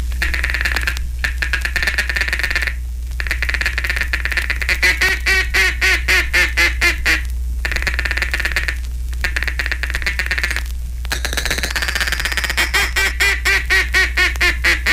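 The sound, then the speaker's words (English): Rapid, soft chattering bursts from a duck call, blown with the tongue as if saying "ticket" softly and very rapidly, mimic a feeding hen mallard's chatter, broken by short pauses and a few quacks, fairly loud over a steady low hum. “It's the confidential chatter of a hen mallard mixed with an occasional optimistic quack, quack, quack, quack, quack, quack, quack, and is the most seductive call of all”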